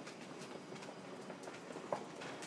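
train running on rails

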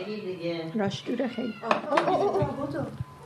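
domestic cat meowing

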